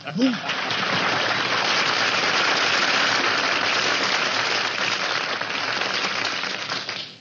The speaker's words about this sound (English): Man, when I get applause like that, I know the audience is from Brooklyn.